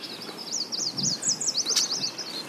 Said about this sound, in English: We set off at first light, paddling with the current down the Missisquoi River. And almost at once, we're in a different world. It's not like there's a bird song here and a bird song there. It's just this kind of wash of sound.